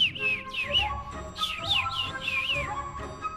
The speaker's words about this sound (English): Above them flew the little bird, chirping merrily.